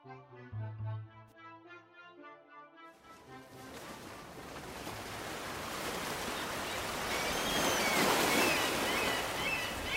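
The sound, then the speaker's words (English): A few seconds of soft tonal music give way to a steady wash of sea waves lapping at harbor docks on a granite wharf in the morning, with a light mist rolling off the sea onto the docks. The waves swell gradually louder and continue with no one speaking. “There is a light mist that is rolling off of the sea and coming in onto the docks.”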